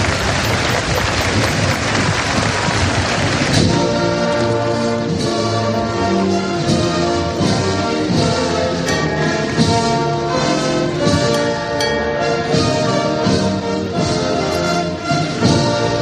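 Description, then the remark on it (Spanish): A Madrid street during the Good Friday Holy Week procession of Jesús de Medinaceli: a wash of applause opens, then a band takes over with a slow, steady march of loud, sustained brass-like chords and regular beats, with no talking. “Suenan a esta hora las calles de Madrid.”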